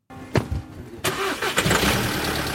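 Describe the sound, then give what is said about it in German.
The engine of the Beichtmobil, a VW bus converted into a mobile confessional for the Catholic charity Kirche in Not, cranks briefly, then catches on the second try and settles into a steady, rumbling idle, with no voices present. “Im März vor 20 Jahren wurde das Beichtmobil, ein zu einem rollenden Beichtstuhl umgebauter VW-Bus, auf dem Kirche in Not-Kongress Treffpunkt Weltkirche 2004 eingesegnet.”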